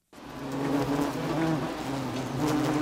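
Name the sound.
wasps buzzing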